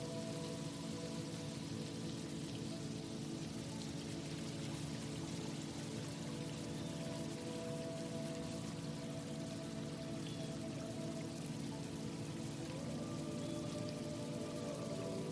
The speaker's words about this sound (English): Faintly, I want you to begin to hear water trickling.